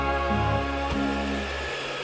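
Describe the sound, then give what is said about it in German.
A vacuum cleaner runs steadily and loudly, a continuous whirring motor drone with a brief click near the middle and no voices. “Wir haben beide furchtbar Angst vor dem Staubsauger.”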